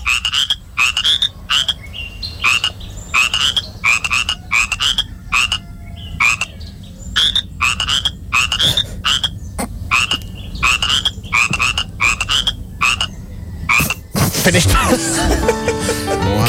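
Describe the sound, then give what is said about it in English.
A frog croaks over and over in short, loud bursts as it is trodden on while its mouth is held, the croaks spaced in a bouncy rhythm like a little tune, before a harsh noisy clatter cuts in at the end. “That was me playing a … song on the back of a frog by treading on it while Matt held its mouth.”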